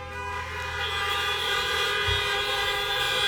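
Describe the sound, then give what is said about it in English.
Car horns honk in a loud, sustained blare that holds steady for about three seconds, with no one talking over it. “I don't know if we got to bring honks or horns in our service when we're done”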